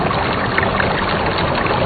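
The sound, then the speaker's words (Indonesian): Flowing river water beside a building at night, heard from a distance, rushes steadily, a dense, continuous wash of sound at an even level throughout, with no voices or other distinct sounds. “Aku coba dekati dan ternyata di sebelah bangunan ini adalah sungai.”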